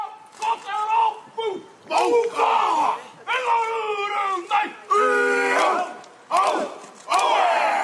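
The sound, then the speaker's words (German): A group of men from a motorcycle gang chants a traditional Maori haka in front of the Al-Nur Mosque, in loud unison, bursts of forceful shouted syllables rising and falling in a rhythmic cadence, with short pauses between phrases and occasional stamping. “Eine Motorradgang führte heute vor der Al-Nur-Moschee den traditionellen Hakka-Tanz der Ureinwohner, der Maori, vor.”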